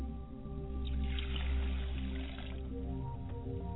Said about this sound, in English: And why don't you pour a glass of water as I do? I'm pouring a glass of water for my Father's spirit. And I say, Ashe. I'm pouring a glass of water for my mother's spirit to quench her thirst. And I say, Ashe.